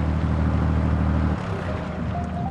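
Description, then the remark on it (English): A tour boat engine drones steadily on the water, a loud low rumble with harmonic hum that shifts slightly in pitch partway through, with no voices over it. “The only thing I'm formally qualified to do is drive this boat.”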